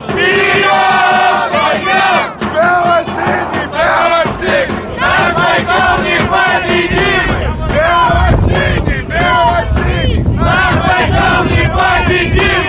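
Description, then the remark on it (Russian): A loud crowd of hockey fans cheers and chants together at the Rekord stadium during Irkutsk Baikal-Energiya's home match against Dinamo Kazan, voices rising and falling in rhythmic waves for the whole stretch. “Ну вот, несмотря на такую ярую поддержку, хоккеисты Иркутской Байкал-энергии все-таки не смогли порадовать болельщиков и в этом домашнем матче уступили Динамо Казани.”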